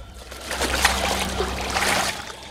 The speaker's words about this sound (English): John drops his towel down on a chair and joins her in the water.